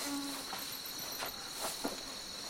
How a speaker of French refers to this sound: Arrête les sales moustiques, ils sabordent.